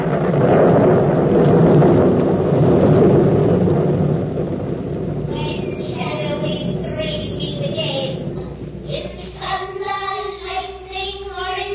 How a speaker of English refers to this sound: Now, what are the stage directions? A desert place. Thunder and lightning. Enter three witches.